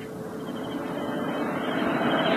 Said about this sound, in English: An armored car. Yeah. It will call to the next watchtower, then come back this way in about 15 minutes.